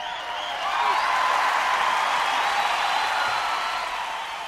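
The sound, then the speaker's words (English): A large live concert crowd applauds and cheers steadily for several seconds after a song, a dense wash of clapping with whoops, fairly loud and sustained before easing slightly at the end. “A lot of crowd enthusiasm thrown in as a bonus.”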